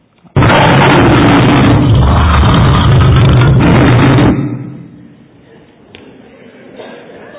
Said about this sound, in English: Some lions can roar up to 114 decibels. That's louder than a power saw, louder than a motorbike.